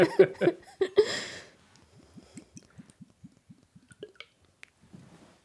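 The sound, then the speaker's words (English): Thick liquid from a just-opened container glugs out in a few loud bursts, partly down a person's arm, then settles into a steady run of soft, wet drips, slowing toward the end. “I just poured it down my arm a little bit.”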